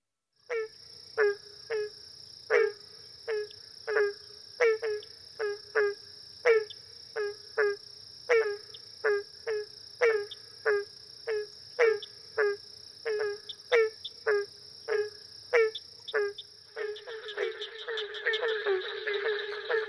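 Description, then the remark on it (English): Barking tree frog (Hyla gratiosa) calls, from the CD companion to the guide The Frogs and Toads of North America: short, hollow barks repeating about once or twice a second over a steady insect drone, swelling into a dense, overlapping frog chorus at the end. “This is the barking tree frog, and this comes from the CD that is a companion to this guide, The Frogs and Toads of North America.”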